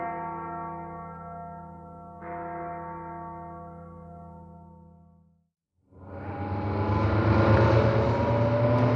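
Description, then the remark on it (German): A very old truck with three men in its cab drones with a steady low hum, cuts out briefly, then returns as a loud, rough rumble as it bounces along a bumpy dirt road. “Ein uralter Lastwagen rumpelte über den holperigen Feldweg.”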